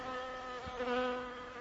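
A steady, droning insect buzz hums without a break, its pitch wavering slightly as it swells and fades a little, with no voices present.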